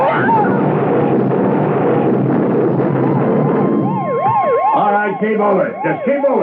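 ambulance siren

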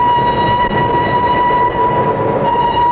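train arriving at station

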